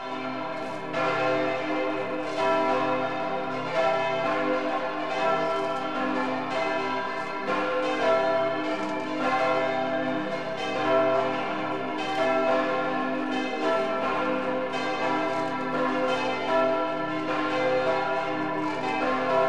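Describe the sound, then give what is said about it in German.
Several church bells of St. Nikolaus, the Catholic parish church in Hall in Tirol, Austria, ring together over the old town in a full, continuous peal, their overlapping strokes forming a steady rolling rhythm with rich ringing overtones, loud and sustained throughout with no voices. “Die Glocken von St. Nikolaus in Hall klingen weit über die große, prächtige Altstadt hinaus, die zu den schönsten Österreichs gehört.”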